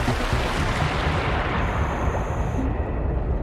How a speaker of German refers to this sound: Dann tauchen die beiden schnell in die eiskalten Fluten ein.